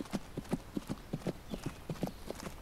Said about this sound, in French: Vous rejoignez l'orée de la forêt du Bolaïr, galopant au cœur des chênes lièges, des cèdres bleus et des pins parasols.